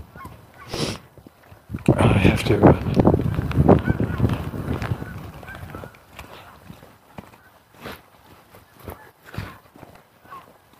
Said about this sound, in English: Some geese.